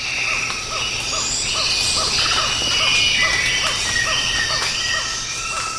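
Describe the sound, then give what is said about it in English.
A dense rainforest chorus recorded in April 1989 on the Osa Peninsula, Costa Rica: rapid repeated tree frog calls pulse steadily, high buzzing cicadas drone continuously, and scattered chirping red-winged parrotlet calls flit over the top, all fairly loud and constant throughout. “This audio was taken in April of 1989, and you can hear tree frogs, red-winged parrotlets, and cicadas.”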